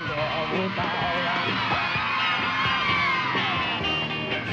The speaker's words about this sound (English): At the first sound of music, a horde of screaming girls rush to the opening doors.